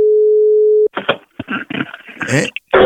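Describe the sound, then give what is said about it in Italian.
A steady, unbroken telephone line tone hums for just under a second, then cuts off as a voice begins talking over a narrow, phone-like line during a radio prank phone call. “Chi è che fischia così?”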